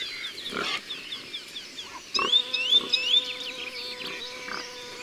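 A Eurasian nuthatch gives a steady, calm series of short, rising, high whistled tui notes, its most frequent call, clearest in a run of several mid-clip, over soft background rustling and a few dull thumps.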